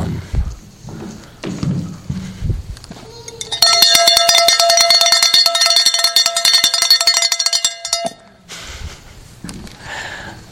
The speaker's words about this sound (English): Noisy gong or clanging cymbal. It's an irritant. It's not pleasant.